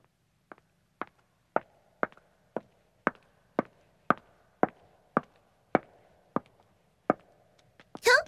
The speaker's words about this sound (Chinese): 只是听到我的脚步声，就让你激动得浑身颤抖啊！